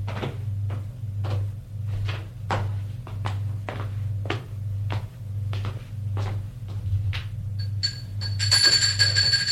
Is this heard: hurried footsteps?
yes